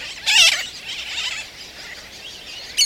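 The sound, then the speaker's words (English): A dense chorus of high, harsh calls from a nesting colony of black and white terns on a tiny island in Florida, overlapping continuously, with a louder burst of rasping cries near the start and another at the end, no voices present. “The colony resounds with their calls.”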